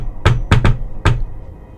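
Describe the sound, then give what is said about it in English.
Four sharp knocks on the wooden door of a small farmhouse, made from the porch, loud, in an uneven rhythm: one, a quick pair, then a final rap after a short pause. The farmhouse stands on a small piece of farmland about a mile south of Groversville. “You're gonna go rat-a-tat at the door.”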